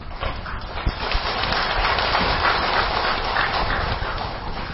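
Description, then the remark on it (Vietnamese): An audience at a talk on the Medicine Buddha Sutra applauds steadily for several seconds, a dense, even crackle of many hands clapping at once with no one speaking. “Những tràng vỗ tay đó cho thấy là quý vị rất hoan hỷ trong việc thọ trì và áp dụng kinh Dược Sư theo tinh thần ứng dụng hơn là tín ngưỡng.”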